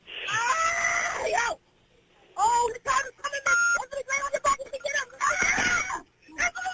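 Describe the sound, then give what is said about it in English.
A woman screams in loud, high-pitched, strained bursts, several in quick succession with short breaks between them, intense. “I couldn't hear you over all that screaming.”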